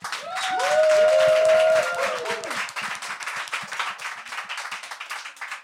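An audience applauds with dense, steady clapping for several seconds, a few loud whoops and cheers rising above it early on before the clapping continues on its own.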